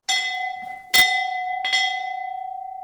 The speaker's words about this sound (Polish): Dzwon zakonny, klasztorny, który jest pewną wartością historyczną, ale nie tylko historyczną, ponieważ służy nam jako gong wzywający nas na modlitwy i na posiłki, na wspólne spotkania.